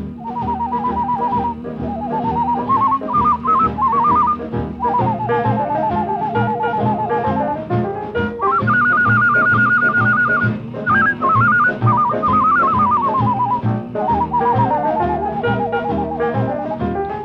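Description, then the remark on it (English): A person whistles a bright, wavering tune meant to mimic a Mexican Chihuahua dog, with trills and sliding notes, carried loudly over steady band accompaniment for the whole stretch, no talking. “Here's the way it whistles a Mexican Chihuahua dog.”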